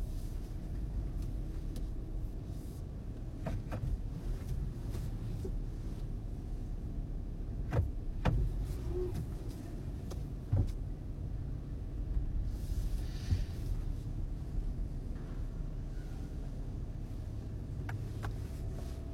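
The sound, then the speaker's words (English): A car drives along with a steady, low engine rumble that fills the whole clip, broken by a few sharp clicks and knocks. No one speaks. “Time to drive a car.”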